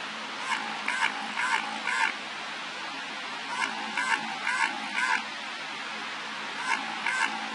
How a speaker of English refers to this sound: That quacking noise has been recorded several times in the Southern Ocean since the 1960s. The noises always come in sets spaced about 3.1 seconds apart, and they have been heard simultaneously in the eastern Weddell Sea off Antarctica